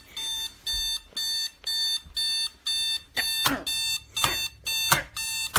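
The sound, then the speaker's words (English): An alarm clock rings in a steady, rapid series of bright electronic beeps, about ten pulses, fairly loud, with some rougher noise breaking in over the later beeps. “That stupid alarm clock.”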